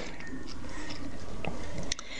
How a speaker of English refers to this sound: Having my morning sip of second cup of coffee.